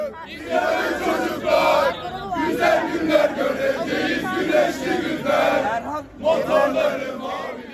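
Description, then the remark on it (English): Several hundred mostly young people chant and sing hymns and the national anthem in unison in front of the CHP headquarters in Ankara, Turkey, after an election, waving Turkish flags; loud and continuous, with rhythmic swells and a couple of brief pauses between phrases. “Several hundred, mostly young people, were still there, waving Turkish flags, chanting hymns and the national anthem.”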